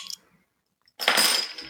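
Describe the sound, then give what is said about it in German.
A brief clink, a short pause, then a sharp hiss of gas escaping as a beer bottle is opened, the fizz holding steady for about half a second. No one speaks. “mache ich mir ein Bier auf, weil das brauche ich jetzt echt.”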